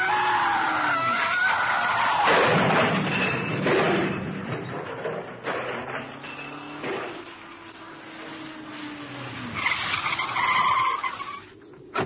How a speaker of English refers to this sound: the driver of the car with Jean inside it must have swerved to avoid it